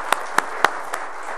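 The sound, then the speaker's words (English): An audience's applause for military veterans standing during a morning church service: a steady hiss of clapping with four sharp, evenly spaced claps standing out and fading after about a second, with no talking. “All right, I think we need to give them a round of applause and thank them for our freedom.”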